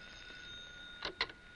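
telephone ringing

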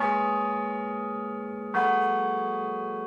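church bells ringing

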